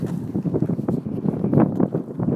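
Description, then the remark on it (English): Steady wind buffets the microphone outdoors at an equestrian venue with three arenas, producing low, rumbling gusts that swell and fade continuously, loud with no voices. “It's windy though. It's windy. Well, maybe you like ambient sound.”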